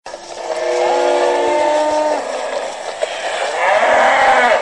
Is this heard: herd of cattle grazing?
yes